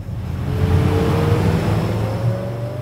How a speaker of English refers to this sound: A couple miles away, a small boat speeds along the Willamette River.